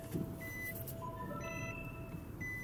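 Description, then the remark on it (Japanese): A car approaches with a steady, low engine rumble at a Seven-Eleven just after snowfall has let up, while a series of high electronic beeps and tones chime over it; no one speaks. “お車が来てたんだ、よし行きましょう。”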